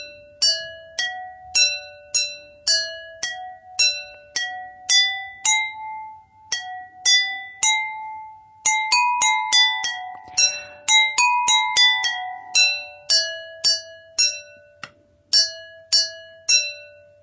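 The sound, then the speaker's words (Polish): A simple tune tapped out on water-tuned drinking glasses: bright, ringing clinks, each note struck and left to fade, in a steady rhythm. Clear, with no voices. “Super, troszkę musiałyśmy zmienić melodię pod koniec, żeby wystarczyło nam szklanek, ale udało się.”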